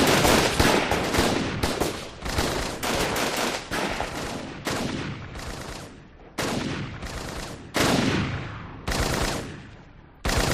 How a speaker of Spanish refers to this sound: Fue alrededor de las 11 de la noche. Los primeros en morir fueron 2 secuestradores, lo que dio inicio a un caos de disparos de uno y otro bando.